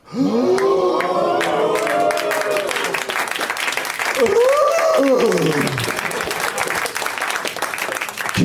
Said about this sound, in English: Long applause.